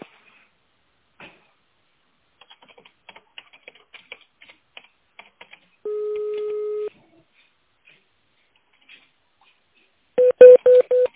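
A telephone keypad dials an employee's internal extension on an office phone line: soft key clicks, one steady mid-pitched tone lasting about a second, then a quick run of four loud, short touch-tone beeps. No one speaks.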